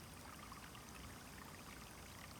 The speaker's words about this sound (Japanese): お水、ここから湧き出しとるね。上の方に降った雨が流れ込んできとるとかね。